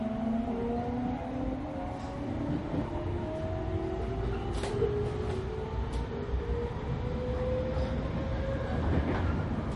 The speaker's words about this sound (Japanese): 3番ホームから電車が発車いたします。危険ですから黄色い線の内側までお下がりください。